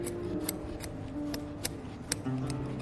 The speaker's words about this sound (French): Et une fois qu'on a fait ça, donc, on utilise des ciseaux qui sont courbes. Et ensuite, on coupe.